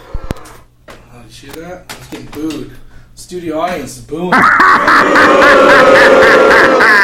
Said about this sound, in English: Hear that? I was getting booed. Studio audience, boom. Brutal. Yeah, real brutal.